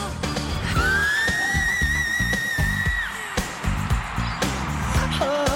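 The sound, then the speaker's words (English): Northern Cardinal song: one long, clear, slightly rising whistled note, then a brief down-slurred whistle, heard over a busy, rumbling low background. “Even if you don't have any big names touring nearby, you can find birds with impressive vocal talents, like the widespread Northern Cardinal.”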